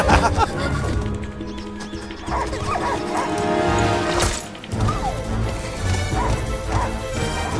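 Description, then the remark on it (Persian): A dog barks and yelps several times at irregular intervals amid loud crashing, banging and a busy, cluttered background. “آخ سگ خوب، سگ خوب.”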